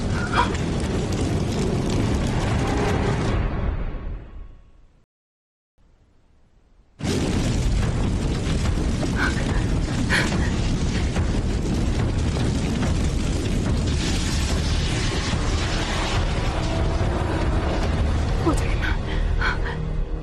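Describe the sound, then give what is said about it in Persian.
A loud, roaring blaze with crackling and booming bursts that fades to near silence, then surges back as a steady, dense roar with sharp pops and thuds throughout. “وای خدای من، آتیش!”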